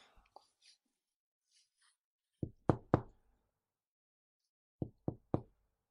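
Two sets of three firm knocks on a door, with a short pause between the sets, set against an otherwise quiet background.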